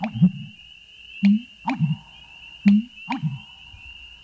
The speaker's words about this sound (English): And an American bittern's comical burps are, well, burps, made by swallowing air and then releasing it.